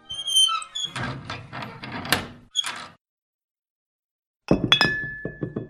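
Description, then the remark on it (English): A glass bottle of the liqueur Benedicting clinks and rattles as it is opened: bright ringing tones, a cluster of knocking clatter, a short silence, then a few more sharp glassy clinks with a lingering ring. “I thought I would pop open a very, very special liqueur called Benedicting.”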